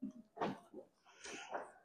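Several abrupt sneezes burst out close to the microphone, separated by short pauses, with the sharpest, loudest one arriving right at the end. Nobody speaks.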